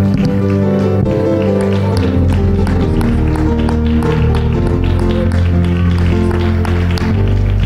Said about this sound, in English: God bless you as you're seated. Let's clap our hands and give a great shout of praise to the Lord.